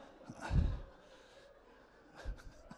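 A person gasps twice, quick breathy intakes of air with a pause between them, soft and somewhat distant against a quiet room.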